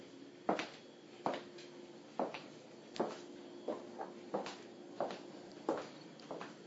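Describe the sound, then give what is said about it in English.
Footsteps walking toward the kitchen at a steady pace across a hard floor, about ten distinct thuds spaced evenly, with a faint constant hum in the background and no talking. “Now I'm moving towards the kitchen.”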